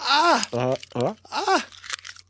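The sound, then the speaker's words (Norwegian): Crinkly, crackling crunches of chocolate foil, crumpled but not fully, being chewed like gum by a person, in short irregular bursts, mixed with strained voiced sounds from the person. “Jeg kunne ikke krølle den helt sammen, for da ble det ikke noe tyggemotstand, ikke sant?”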